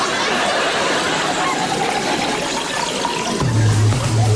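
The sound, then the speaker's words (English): Tea is poured down a sink drain, splashing and gurgling steadily in a continuous rush lasting several seconds, with a low droning hum joining in near the end. “Pour it down the sink, let me show you how to make it.”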